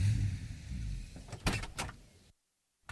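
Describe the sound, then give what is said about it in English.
The front door of a house is opened by two children, with a couple of sharp rattling clicks of the latch over a low rumble, then a brief silence before a dull thud. “Jack and Mary ran to open the door.”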